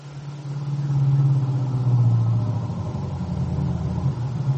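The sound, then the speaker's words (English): A car engine hums steadily at a low pitch, a continuous droning rumble that swells slightly and holds as the car, headlights on, drives along a road, with no voices present. “And then his thoughts were interrupted as the headlights of his car picked up the figure of a young man plodding along the road.”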